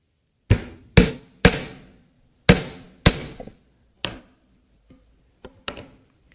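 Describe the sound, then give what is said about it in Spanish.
A hammer drives a nail into a piece of wood with a series of sharp, ringing strikes, several loud blows in an uneven rhythm, then lighter taps trailing off toward the end. No talking. “Yo creo que aquí todos hemos clavado alguna vez un clavo, ¿no?”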